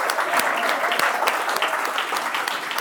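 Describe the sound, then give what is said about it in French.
Steady applause from an audience for the coordinator of a web radio, honouring her work, a dense patter of many hands clapping at an even loudness throughout, with sharp individual claps standing out here and there. “et je voudrais qu'on l'applaudisse pour le travail qui a été fait.”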